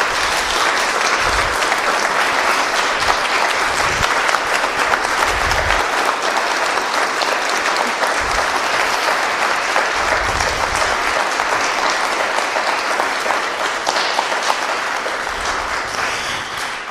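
An audience claps steadily for several seconds, a dense, even wash of applause that stays loud throughout before easing slightly at the end, with no voices over it. The applause is for the speakers and the organiser of a cultural event.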